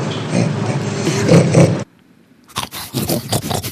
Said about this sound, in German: Das ist auch ein Schwein, ne? Ja, das ist auf jeden Fall ein Schwein. Das ist ein Bentheimer.